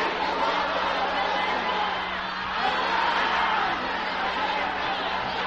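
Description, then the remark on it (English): A large audience shouts a response together in a dense, sustained wash of many voices, loud and continuous for several seconds with no single voice standing out. “I'm sure you can shout it louder than this.”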